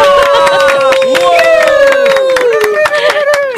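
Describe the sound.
Audience applause welcoming two CCM worship ministers on the show Wow CCM, a steady patter of sharp claps running throughout, mixed with a loud, sustained melodic voice gliding up and down over it.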